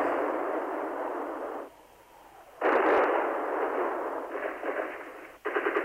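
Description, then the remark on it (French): Heavy artillery shelling of Sarajevo at night in May 1992, in a muffled, narrow-band old recording: roaring bursts of blast noise from cannons, a sharp new impact midway and another near the end, with crackling rumble between and no voices. “La nuit, les canons ont bombardé Sarajevo.”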